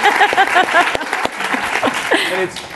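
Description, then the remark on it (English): A crowd applauds the nonprofit housing developers working with Santa Clara County, clapping steadily for a few seconds, the dense clapping mixed with scattered cheers and voices calling out over it. “But Santa Clara County, in partnership with other great cities, and I know we have a number of the nonprofit developers here, and give them a round of applause, because it's the hardest stuff to build, and they do it.”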